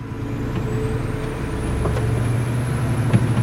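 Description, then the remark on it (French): A large truck's air brakes release with a hiss over the steady low rumble of its idling engine, with a couple of brief clunks, as the truck driver gets ready to drive off slowly. No talking. “Je vais aller doucement parce que comme vous n'êtes pas attaché... Romain Triboulois. Vous étiez déjà monté dans un camion ?”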